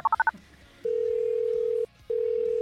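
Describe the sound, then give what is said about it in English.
Four quick touch-tone beeps of a number being dialed to call a teenage girl's phone, then a steady, loud ringing tone on the line that pauses briefly and starts again. No one speaks. “Yes, providing that she can hear her phone ring above her iPod blowing out what's left of her eardrums.”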